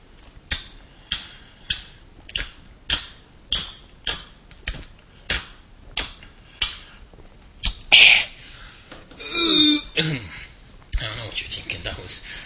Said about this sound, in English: Forced belch and a forced drinking sound. Well, that's intentional. This is an audio program, and I want you to hear the stuff. I don't know why I want you to hear me belching and hear me drinking.